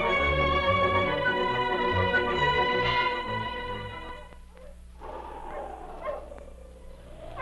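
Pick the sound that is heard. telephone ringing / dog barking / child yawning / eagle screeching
dog barking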